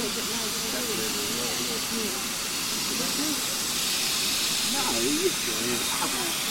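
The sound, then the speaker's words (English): A steady, loud hiss of escaping steam from a steam locomotive at Swanage fills the whole recording, with indistinct voices of the many people on board murmuring underneath it. “A lot of people on board the train. this particular locomotive would have been”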